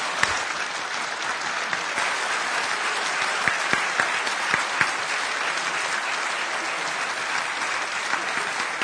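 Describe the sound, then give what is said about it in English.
Steady, sustained applause from the audience of a student-produced forum of seven candidates, after a candidate's closing statement: a dense wash of many hands clapping at an even level for the whole stretch, with a few sharper individual claps standing out and no one talking. “Now you can clap.”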